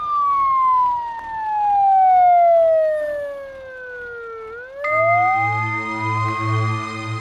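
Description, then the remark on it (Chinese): A loud ambulance siren sweeps slowly downward in a long wail, then switches to rising tones over a steady low engine rumble, with no talking. “在那一瞬间之后，人就在救护车上了。”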